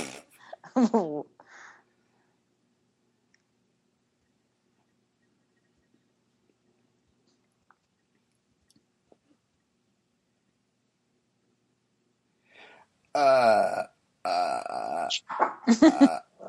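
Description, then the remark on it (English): A dog makes throaty, grumbling vocal noises: a brief outburst at first, then a long silence, then a louder, more sustained run of whines and growly sounds. “Stop, dog.”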